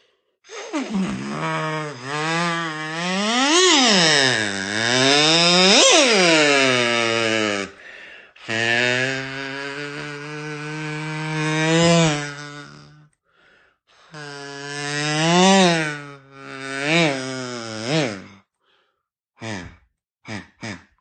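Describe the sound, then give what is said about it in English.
A buzzy kazoo mimics a speeding car, its pitch swooping up and down like a revving engine across three long loud bursts, then ending with a couple of short blips. “That was a fast car.”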